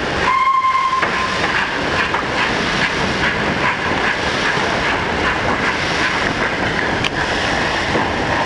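A 1930s train hauled by a steam locomotive, on a Pacific Vapor Club trip from Sotteville-lès-Rouen to Fécamp, rolls past with a dense, steady roar of hissing steam and rattling wheels, opening with a short, shrill whistle blast. The noise stays loud throughout, with no voices.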